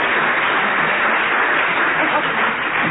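A quiz show audience applauds to decide the winner of a word game round, a dense, continuous patter of many hands clapping that stays loud and even for the whole few seconds, with no voices standing out.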